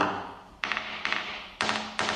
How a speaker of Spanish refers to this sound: Se hace con un pequeño martillo. Es al mismo tiempo que observamos la pala, vamos golpeándola.